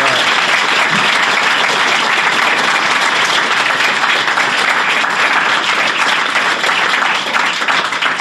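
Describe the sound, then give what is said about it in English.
A large crowd applauds steadily to welcome a speaker who will talk about Palm Island, many hands clapping in a dense, continuous wash of sound that stays loud and even for several seconds without any talking. “everyone should give her a big welcome, who's going to actually be talking about Palm Island.”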